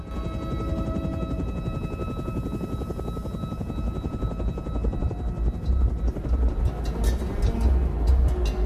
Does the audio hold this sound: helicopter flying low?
yes